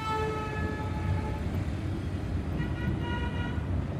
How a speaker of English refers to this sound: Yes, that's right. A bus station in Tegucigalpa, the capital of Honduras.